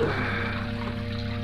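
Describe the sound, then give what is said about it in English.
Water trickles and splashes steadily, a continuous flow like a fountain pouring into a basin, with no pauses and no voices. “Lay him down on the edge of the fountain.”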